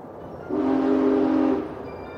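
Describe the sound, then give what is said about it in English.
A train's horn sounds one steady, fairly loud blast of about a second over a continuous low rumble of rolling rail noise as the train speeds along a mountain pass at night, with no voices. “Under cover of night, a train speeds along a mountain pass.”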